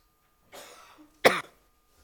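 A short throat-clearing rasp is followed by a single sharp, loud cough from a speaker at a church service who is ill and on antibiotics, with no talking around it.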